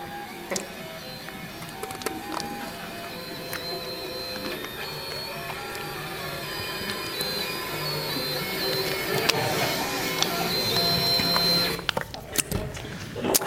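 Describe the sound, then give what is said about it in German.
A 3D printer or CNC machine runs steadily, its stepper motors whining in shifting tones over a continuous mechanical whir, moderately loud, with a brief pause and clatter near the end. “Naja, wenn du sehr positiv denkst bei einem 3D-Drucker, wenn du eher negativ denkst bei einer CNC-Fräse.”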